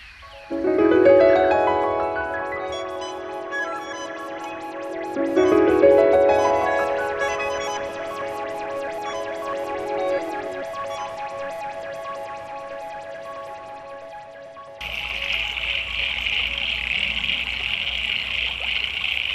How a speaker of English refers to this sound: Alan Roberts is from Huntley in Victoria, and he says that these are the frogs from the creek near his place. He writes, "The creek is small and ephemeral, flowing intermittently during autumn, winter and spring